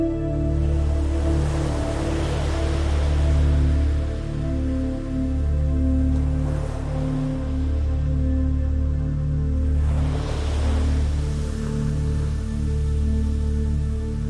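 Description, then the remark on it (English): Ocean waves rise and crash in about three hissing surges, each swelling and fading, over a steady, low humming musical drone with no talking. “On the next wave crash, set the intention of letting the warm, soothing, salty water wash away and cleanse whatever it is that you do not want to keep a hold of and that you want to release.”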